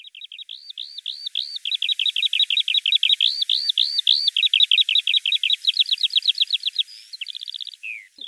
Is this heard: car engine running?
no